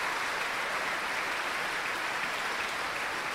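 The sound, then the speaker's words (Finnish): Steady, sustained applause from a large audience at an RSO concert conducted by Hannu Lintu, as composer Sebastian Fagerlund turns to the audience to receive the ovation; a dense wash of many hands clapping at an even level throughout with no voices standing out. “Ja kääntyy nyt kohti yleisöä ottamaan vastaan suosion osoituksia.”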